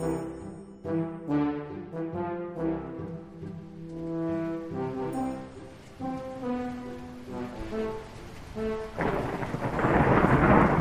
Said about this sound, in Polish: Wojtuś, co za burza? Burza! Jaka burza, Boże!